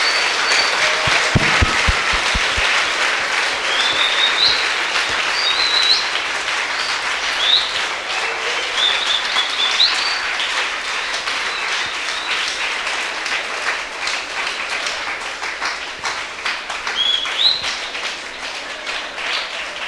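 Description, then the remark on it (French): An audience applauds for the apostle Paul steadily for about twenty seconds, a dense, sustained wash of many hands clapping at a fairly loud level, with a few brief whoops or high cheers scattered through it. “Applaudissez pour l'apôtre Paul.”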